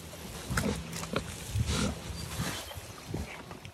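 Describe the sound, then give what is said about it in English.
Six pigs grunting and snuffling on family farmland in southern Minnesota, a run of short, low, rough bursts coming in an uneven rhythm over a steady outdoor background, with no one talking. “We decided after several conversations to buy pigs, and we would raise them on our family land in southern Minnesota.”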